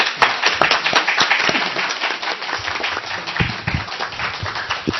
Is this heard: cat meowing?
no